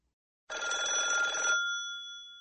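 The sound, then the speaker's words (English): A single burst of an old-style telephone bell ringing loudly for about a second, its clear metallic tones lingering and fading afterward. No voices. “Listen to the phone calls.”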